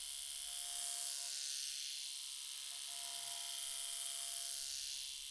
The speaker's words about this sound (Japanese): お耳にシェーバーってどんな感じ？